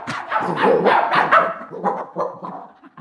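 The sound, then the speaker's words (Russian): Two dogs, a giant one and a bow-legged snub-nosed one, bark in a rapid, overlapping flurry, loud, with a few yelping, whimpering notes as the barks trail off while they flee up a staircase. “Собака-великан и кривоногый курносый пес, не оглядываясь, удирали по лестнице.”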